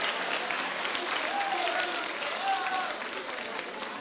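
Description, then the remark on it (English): A crowd applauds steadily for about four seconds, a dense wash of clapping hands at even loudness, with a few faint voices or whoops briefly rising above it. “Come on, give year 11 version of me a round of applause tonight.”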